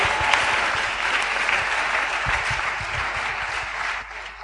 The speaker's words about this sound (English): Clap for Jesus.